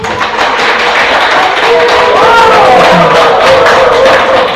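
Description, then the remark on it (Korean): A group applauds steadily at the close of an education session, a loud, dense wash of many hands clapping that keeps going evenly for the whole few seconds, with faint voices rising briefly in the middle. “예, 마무리니까 박수 한번 치시고.”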